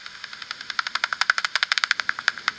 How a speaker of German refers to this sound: Das klingt jetzt erstmal nur wie so ein, ja, wie als ob jemand so einen nassen Lappen ausschüttelt. Na genau, das war ja jetzt, glaube ich, erstmal im Original-Ultraschall, wie das euer Messgerät aufnimmt. Also quasi einfach nur der Flügelschlag